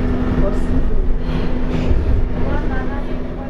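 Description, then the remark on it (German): A steady, loud low rumble fills an underground station, with a constant hum and the muffled roar of a train, while indistinct voices murmur faintly in the background. “Und unser Interesse ist, ob das Gefühl von dem U-Bahnhof, von der U-Bahn-Station vielleicht an auch mittransportiert werden kann.”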